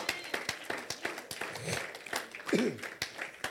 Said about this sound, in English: Clap for the Lord Jesus.